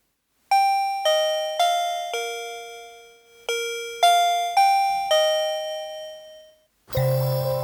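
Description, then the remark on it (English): A new doorbell chimes out a bright, ringing melody of about eight sustained notes, with a short pause midway, played loud before a different, noisier sound abruptly cuts in. “finishing the pod with Barry Glendenning's new doorbell”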